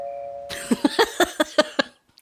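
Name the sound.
doorbell ringing repeatedly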